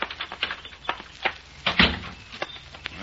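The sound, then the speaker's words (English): The lobby door of the Lakeside Inn, at the end of the porch, opens and shuts: a run of latch clicks and rattles, then one louder thud partway through, followed by a few lighter knocks. No one speaks. “That looks like the door to the lobby down there at the end of the porch.”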